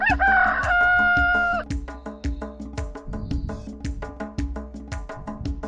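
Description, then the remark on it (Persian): A rooster crows once, loud, at the very start, then falls silent while a steady, bouncy percussive music beat carries on alone. “خروسی خوش صدا هم، صدایم قوقلی قوقو، صبحا که بیدار میشم اول آواز میخونم، تا شما بیدار بشید، گرم کاروبار بشید.”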